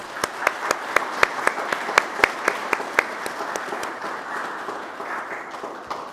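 An audience applauds, a dense wash of clapping with one set of sharp, evenly spaced claps standing out for the first few seconds before the applause thins and softens.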